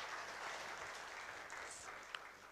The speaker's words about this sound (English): Thank you very much. Clap, please. Thank you.